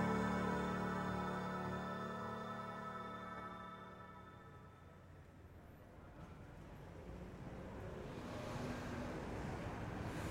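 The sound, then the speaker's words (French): A small scooter doing a wheelie whines with a steady buzzing drone that fades away, followed by broad outdoor traffic and wind noise that swells again toward the end. “Il y a un petit scooter qui fait une roue arrière.”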